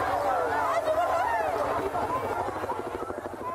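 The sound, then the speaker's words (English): A crowd of people screams and shouts in a street, many high, wavering voices overlapping in a loud, continuous commotion that stays intense for the whole few seconds. Audio from news station KBAK. “The audio of people screaming is from news station KBAK.”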